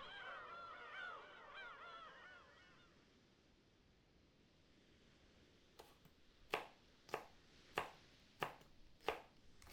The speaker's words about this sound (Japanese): 遠くからする波の音、小気味いい包丁の音、柔らかな潮の香りと、ふわりと鼻先をかすめる温かな食事の香り、馴染みのある心地のいい感覚にまどろみながら、